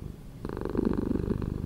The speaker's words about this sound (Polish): Przypomnijmy dwa dźwięki mruczenia. Dźwięk numer jeden. Dźwięk numer dwa. Odpowiedź: tak mruczy kot,